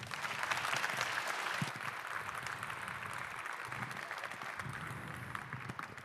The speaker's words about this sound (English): Please give him a warm round of applause.